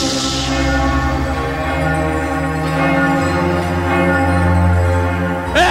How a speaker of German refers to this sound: Dröhnendes Glockengeläut.